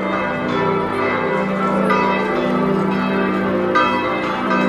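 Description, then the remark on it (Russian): Church bells peal from Giotto's bell tower, an 84-metre Gothic campanile, a loud, continuous wash of overlapping ringing tones that hum and sustain throughout, with no voices heard. “Ну вот как раз вовремя заработали колокола колокольни Джотто”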